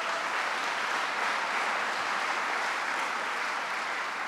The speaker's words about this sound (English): Give the Reverend a big round of applause.